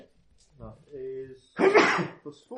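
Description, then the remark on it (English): One sudden, loud sneeze bursts out, sharp and breathy, between short stretches of a person talking. “Bless you.”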